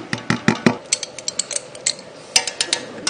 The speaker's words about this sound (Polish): Teraz wrzucam posikane pomidory do garnka.